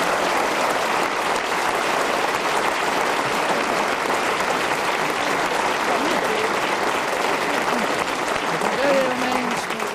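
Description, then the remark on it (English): A large audience in the Sherman Theatre applauds Derek Nimmo as this week's winner of a panel show, clapping steadily throughout, a dense, even wash of applause at a constant loud level, with a faint voice or two surfacing briefly near the end. “Round of applause.”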